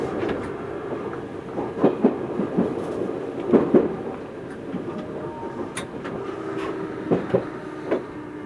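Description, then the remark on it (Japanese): A Romancecar limited express train rolls along the rails, a steady rumble broken by sharp clickety-clack pairs of wheels crossing rail joints every few seconds, with no voices. “本日も特急ロマンスカーをご利用くださいましてありがとうございました。”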